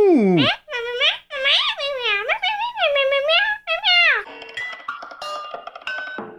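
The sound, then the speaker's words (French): A run of drawn-out, rising and falling cat meows, loud, followed by a couple of seconds of bright electronic beeping tones from a device said to understand cat language. “Le Minou Pitou 2000 peut également comprendre le langage des chats.”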